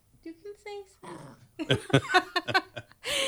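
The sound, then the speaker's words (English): A dog named Emmett Von Fluff gives a few short, high barks on the command to speak, followed by a person talking and a burst of breathy noise at the end. “Oh yeah, all right. Speak some more. Go on.”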